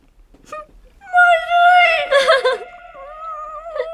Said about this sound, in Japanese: 泣いている。